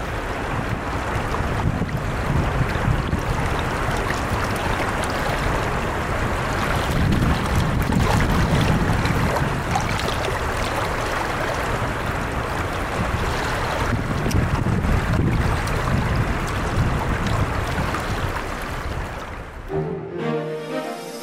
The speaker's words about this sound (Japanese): 春になり山の雪が溶け、豊かな水が川を流れています。国の重要文化財に指定されている木干しのもと、川のせせらぎに行き交う自動車の音が混ざってくるのも、市内中心部を流れる中津川らしい音ですね。